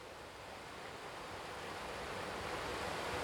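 The Adda river rushes steadily along a bank, a continuous broad hiss and wash that swells slightly louder over a few seconds, with no voices present.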